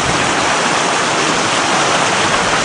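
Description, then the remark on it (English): A fast-running creek that has been running hard roars steadily and loudly, a dense, unbroken rush of churning water with no voices or other sounds. “creek is roaring. It has been running hard.”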